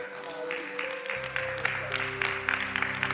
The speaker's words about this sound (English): That's a good time to clap.